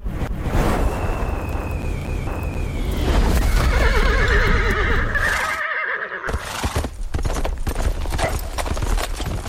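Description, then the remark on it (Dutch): A horse gives a loud, wavering whinny with breathy snorts, alongside steady clip-clopping hooves and rustling noise, as horses blow with their nostrils into a frozen drinking trough at a well in Hokiao at dusk; no one speaks. “Met een paard, de schurk, en zijn maten stonden juist met hun neusgaten te blazen in de bevroren drinkbak aan onze waterput, toen zij opeens verschrokken en al bijzend, driftig heen en weer lopend en pafferend de 4 klauwen kwamen naar ons huis”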